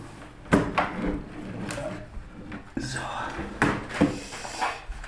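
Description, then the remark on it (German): A keyboard tray holding a USB keyboard slides out with a wooden scrape as the computer is switched on, followed by several sharp knocks and clatters, moderately loud, with faint murmuring underneath. “Tastatur raus.”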